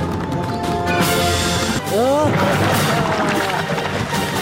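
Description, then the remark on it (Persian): Loud gunfire sound effects crack through a dense, noisy mix as villagers shoot at two people climbing a rope toward a ship, with sharp bursts and a quick whining sweep like ricochets midway, while a busy background continues throughout. “اونا به دنبال کشتی کش می شدن و مردم قریه طرفشان تیراندازی می کرد.”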